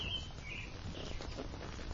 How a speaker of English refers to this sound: It really is raining.